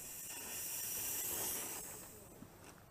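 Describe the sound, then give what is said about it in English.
A steam locomotive lets out a strong, steady hiss of steam that swells over the first second and a half, then eases off gradually, with no talking, as the regulator is opened a touch in full forward gear so the engine moves forwards. “If I open the regulator a touch, the engine will move forwards.”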